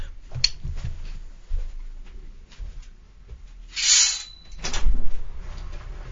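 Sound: door being opened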